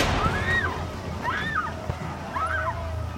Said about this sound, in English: But he ignores you and then starts pouring oil onto the floor of the tent. What are you doing? Well, we're burning the tents down.